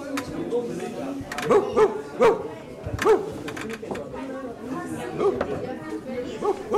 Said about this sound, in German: das ist ein Hund.